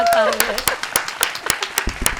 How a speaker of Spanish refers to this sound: Gracias. Y un aplauso para ellas.